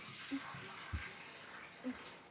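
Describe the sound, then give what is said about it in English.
Water drains from a bathtub with a quiet, steady rushing hiss, broken by a few soft gurgling blips and one low glug partway through. “Let the water drain out.”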